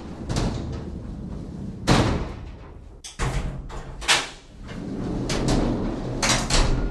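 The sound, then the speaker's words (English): A heavy freight elevator door in a mine rumbles and clanks shut, with a loud slam near two seconds, then another jolting clatter and continued metallic rattling and scraping. No one speaks. “When the door first shuts, it's already dark inside the elevator.”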